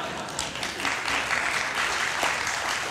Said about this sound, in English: I have to say right off the top, if I may, that I live and work inside the Beltway, but it is great to be back in America again. Yes, you can clap for that.